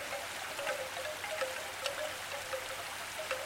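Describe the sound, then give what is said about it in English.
Steady typhoon rain falls on wet streets in Hong Kong in June 2017, a dense hiss with scattered louder drops and splashes, continuous, with no voices. “Typhoon season, rain washed streets, wet feet.”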